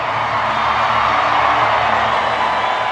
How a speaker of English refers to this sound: The crowd roars as the boy and his sheep get about 40 feet out into the arena.